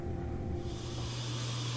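refrigerator hum

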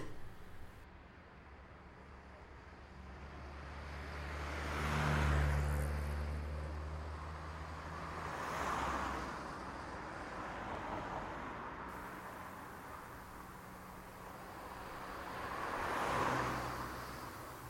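car driving fast

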